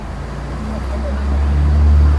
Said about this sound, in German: Die Stresemannstraße in Hamburg-Altona. Schmutzig graue Häuserfassaden, Pkw und Schwerlaster schieben sich über die vierspurige Straße.